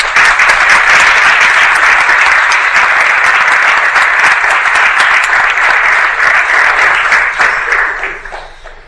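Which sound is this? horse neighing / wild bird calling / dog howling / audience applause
audience applause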